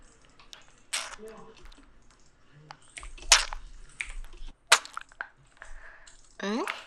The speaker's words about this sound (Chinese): 在干嘛？吃糖呀。刚不是给你发了照片吗？现在吃的糖啊，就和照片里面我放进去的棒棒糖是一个口味呢。